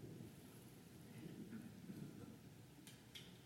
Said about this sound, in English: spring's coming. It's March. There's the first rumbles of thunder for spring.